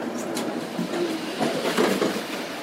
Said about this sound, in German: Noch den Inselstadtteil Veddel passieren und dann rumpelt die S3 auch schon auf Wilhelmsburg zu.